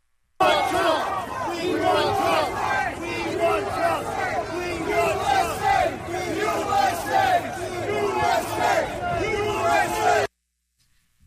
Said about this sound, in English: They're screaming USA. Screaming USA. Yeah, and you know, I know right now you can't see it because they're screaming USA. They're screaming USA. Yeah, and there's excitement.